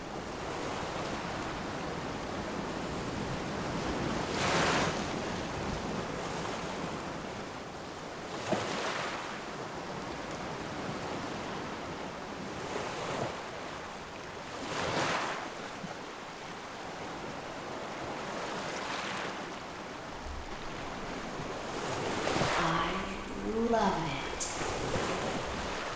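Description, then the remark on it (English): Ocean waves roll onto the shore in a steady rhythm, each broad hissing surge swelling and fading every few seconds over a constant watery wash, with a faint voice-like sound near the end. “Her waves are extraordinary.”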